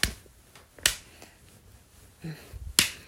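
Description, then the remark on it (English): Three sharp, crisp slaps on skin land at uneven intervals, each a loud smacking crack that dies away quickly, with a soft muffled sound in the quiet between the second and third. “Do you like to be slapped?”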